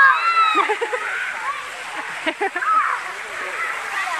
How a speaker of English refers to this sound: It's kind of splashing from the source of the water. There are two major spouts, kind of, where the water comes out from these concrete benches that only go up maybe to my knees.